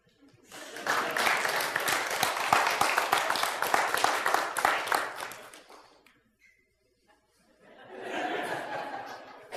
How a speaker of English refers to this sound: No need to clap.